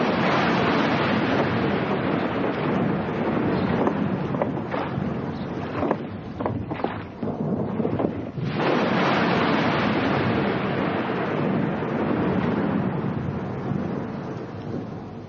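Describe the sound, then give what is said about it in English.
A stormy sea roars steadily with crashing waves and gusting wind, loud, easing briefly in the middle before surging back, as a rowing boat crosses it in the storm. No voices are heard. “We'll need to get to the other side before this storm gets worse.”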